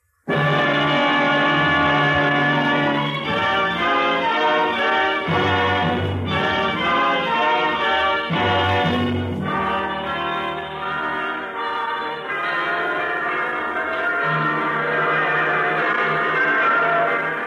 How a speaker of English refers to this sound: The bells are ringing throughout the land this week. Hundreds of bells, thousands of bells, tens, perhaps hundreds of thousands of bells.